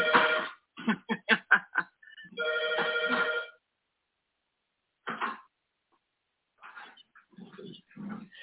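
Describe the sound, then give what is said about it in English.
A home telephone rings with a bright electronic warble, sounding in several bursts of rapid pulses and longer sustained tones separated by short pauses, with some quieter, mixed sounds toward the end. “It's my home phone that never rings.”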